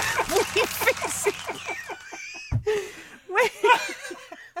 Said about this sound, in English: That's a frog, isn't it?